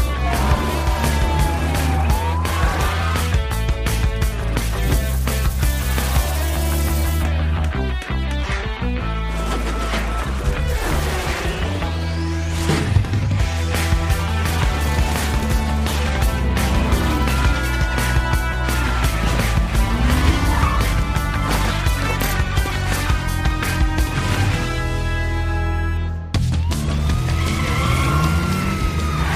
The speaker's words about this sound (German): Lieutenant Duke Detain raste in seinem Polizeiauto durch die Straßen der Stadt. Er verfolgte einen Bankräuber, der seine Beute in Sicherheit bringen wollte.